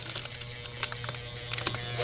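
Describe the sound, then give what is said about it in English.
Paper crinkling in a quick, irregular series of soft, quiet crackles and rustles over a steady low electrical hum, with no talking. “I think he's crinkling up paper.”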